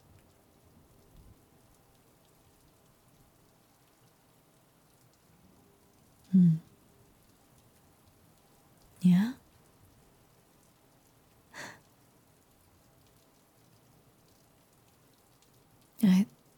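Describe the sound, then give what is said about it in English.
Soft, steady rain drums on housetops and windows at night, pattering faintly throughout, with a few short, louder breathy sounds and a brief spoken word breaking through at intervals. “I can't say it's pleasant outside in this weather, but at night, when I'm with you, just listening to the soft drumming of rain on housetops and windows, it's almost bearable.”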